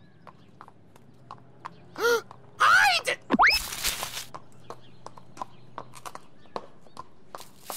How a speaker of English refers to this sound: Oh, it's just some horse and what do you suppose that thing with the long hair is?